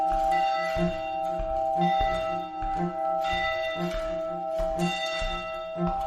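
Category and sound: signal or alarm, alarm bell ringing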